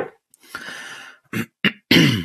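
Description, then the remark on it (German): A fairly loud throat clearing: a long raspy rasp followed by three short, forceful bursts, the last one strongest, with no talking. “Ich darf mich nicht räuspern, sonst wird es zur Gewohnheit.”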